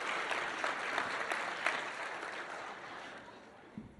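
An audience claps steadily, a dense wash of many hands that starts strong and gradually thins and fades over about four seconds, with no one speaking.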